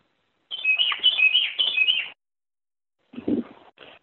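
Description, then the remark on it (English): A bird chirps in a quick, busy burst of high tweets lasting over a second, then after a pause gives a shorter, lower flurry of calls, clear with no talking. “are you playing your bird there?”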